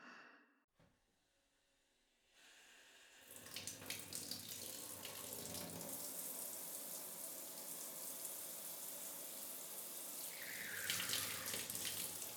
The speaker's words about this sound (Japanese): 寒くない？大丈夫？お湯かけてあげるね。